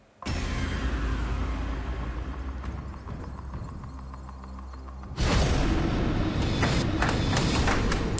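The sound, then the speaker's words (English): A counter, dropped from drop zone four, clatters down a wall of pegs in a rapid run of ticking, rolling impacts over a steady rumble, then a louder, busier burst of clacks near the end, with no talking. “Right, let's put a counter in and see if we can get you some more money.”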